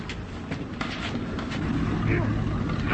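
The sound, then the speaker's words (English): A ship's engine runs with a steady, deep rumble that fills the whole moment, growing slightly louder toward the end, while muffled voices come through faintly in the background. “What was that? Engine.”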